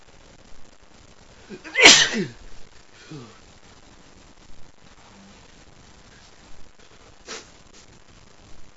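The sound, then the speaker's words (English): A single sharp, loud sneeze, apparently set off by an allergy to a dog, bursts out near the start, followed by a few faint rustles and soft breathy sounds in otherwise quiet surroundings. “Is it this dog making you sneeze?”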